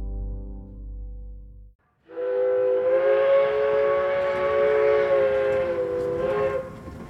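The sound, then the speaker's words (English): A steam train near Paris in 1886 rumbles along as its whistle blows one long, loud, steady blast lasting several seconds, preceded by a lower droning tone and a brief pause. “A train near Paris.”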